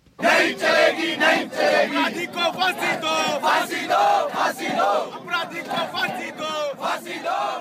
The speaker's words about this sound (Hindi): दिल्ली का जंतर मंतर और India gate रविवार की शाम इस तरह के नारों से गूंज रहा था। इन नारों की वजह थी निर्भया बलात्कार कांड में नाबालिग दोषी की रिहाई, जो अब बालिग हो चुका है।